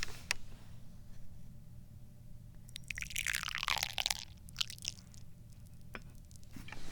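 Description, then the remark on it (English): About 30 milliliters of tea is poured from a carafe into a small tasting cup: a quiet stretch, then a second-long burst of splashing, trickling liquid with a shifting tone, followed by a few faint drips and taps. “That was the tea pour.”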